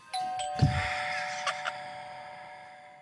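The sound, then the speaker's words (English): A doorbell chimes, its bright bell tones struck several times in quick succession and then left ringing as they slowly fade away. No one speaks. “Oh, who could that be at the door?”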